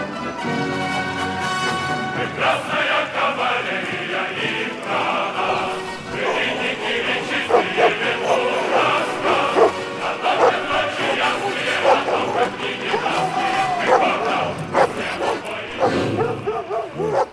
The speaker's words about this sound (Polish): Patrzcie, ludzie. Psy szczekają jak nigdy.